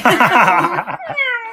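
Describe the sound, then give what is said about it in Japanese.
A person playfully imitates a cat during a card game where players declare in cat language how many cards they want to exchange, voicing a quick run of several wavering meows in close succession, then a longer, higher drawn-out meow, loud with no other talk. “ヒットの、3枚3枚3枚とか4枚4枚とかいうその枚数の宣言を、猫語で行うゲーム。”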